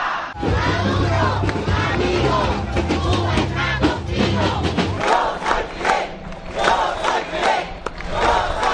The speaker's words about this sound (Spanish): Banderas cubanas y venezolanas entrelazadas, gritos de ¡Viva Fidel! ¡Manos fuera de Venezuela! ¡Yo voto sí! ¡A Cuba se respeta! Se multiplicaron en una gigantesca marcha que partió este jueves desde diferentes puntos de la ciudad de Santa Clara